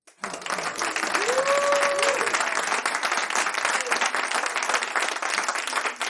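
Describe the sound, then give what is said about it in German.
A live audience, asked by the host to make some noise, breaks into sustained applause, a dense wash of clapping that stays loud for about six seconds, with a brief whistle or cheer rising near the start before it fades out. “Aber nachdem wir ja heute Live-Publikum haben, würde ich sagen, ich will mal was vom Publikum hören.”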